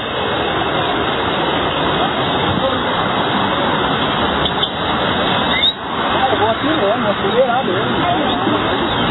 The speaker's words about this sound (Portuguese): A água tá escoando bastante aqui com pressão.